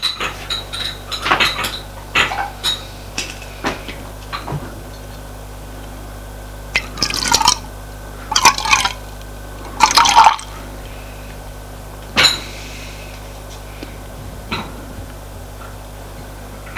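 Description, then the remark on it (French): Dishes and cutlery clink sharply and repeatedly, with short bursts of milky coffee, heated in a saucepan on a stove, being poured into a cup in between as a father serves his son breakfast; no one speaks. “Il s'assoit et son père commence à le servir.”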